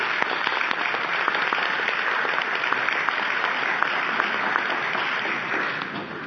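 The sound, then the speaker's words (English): A room full of people in a meeting hall claps steadily for the Netherlands' work on the committee on food additives and contaminants, the dense patter of many hands lasting several seconds before easing off slightly at the end. No voices stand out. “It was one of the most successful committees, and the Netherlands had gained a lot of experience, and it's important to put in our records and also clap for the Netherlands for good work that they did under that commission.”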